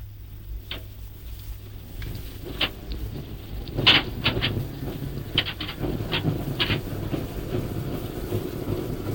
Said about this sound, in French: Et c'est dans la voiture motrice elle-même que nous avons commencé d'enregistrer. Notre métro, si l'on peut dire, notre métro va prendre le départ.